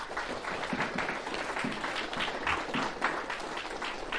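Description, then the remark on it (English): A crowd applauds, with many hands clapping in a dense, steady patter across the whole stretch, fairly quiet and even, with no voices standing out. “Why do people clap themselves now?”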